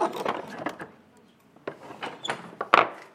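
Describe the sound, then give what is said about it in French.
An old wooden door in medieval castle style, at the entrance to the Radio Saint-Af studio in an old stone guard tower on the place de l'Hôtel de Ville, opens with scraping, knocking handle sounds and a sharp final thunk as it swings, a few distinct bumps spread over about three seconds. “Alors quand tu rentres, t'avais une porte, une vieille porte en bois style château médiéval.”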